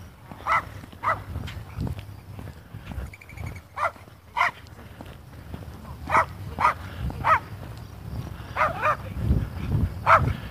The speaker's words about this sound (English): A couple guys out walking their little dogs.